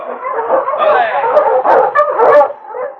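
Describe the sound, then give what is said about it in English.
A pack of sled dogs pulling an approaching dog sled in heavily falling snow barks, yips and whines excitedly together in a dense, continuous chorus, loud, with overlapping high yelps rising above the din. “was trudging along in the heavily falling snow toward his cabin when he heard a dog sled coming along behind him.”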